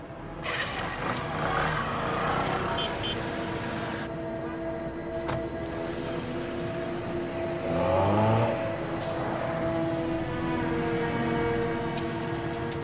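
A motorcycle engine drones steadily as it rides along tailing a suspect, then revs up sharply into a louder surge before settling back to a steady hum. No one speaks.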